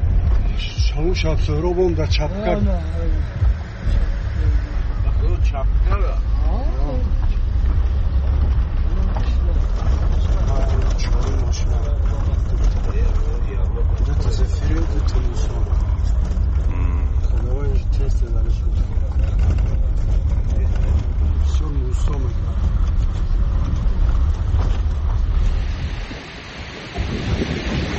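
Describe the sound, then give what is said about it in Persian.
A vehicle rumbles steadily over the rough, dangerous road into the Yaghnob valley, approaching Margheb, the valley's first village, with loud low engine and road noise, occasional rattles and bumps, and a voice talking over it almost the whole time. “مثلا نقلیات ما به نزدیکی اولین دهه این وادی، دهه مرغه نزدیک می شد که از تاثیر سنگ و خرسنگ ها چرخ آن شکست”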